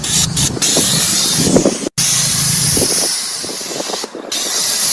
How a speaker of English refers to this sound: It's got like that, or one of those dentist things that sucks the water out of your mouth.